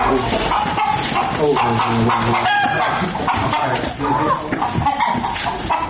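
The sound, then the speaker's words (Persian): A busy, fairly loud farmyard din of clucking chickens with a rooster crowing, layered over steady background noise and indistinct voices throughout. “می خواهد بیشتر با مرغان نگاه و بین کند چون که آنها پرنده های اهلند.”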